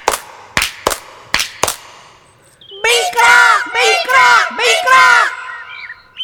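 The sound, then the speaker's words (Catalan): Five sharp hand claps ring out in quick succession from elves in a forest, then after a short pause the group of high elf voices bursts into loud, excited shouting in several rising waves. “Els follets van picar de mans i es posaren a cridar.”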